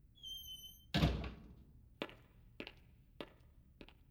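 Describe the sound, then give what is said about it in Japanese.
A front door shuts with a solid thud as someone leaves the house, preceded by faint high electronic tones and followed by four crisp, evenly spaced clicks. “ご主人様が家を出て行って、休日なのに一人になった私。”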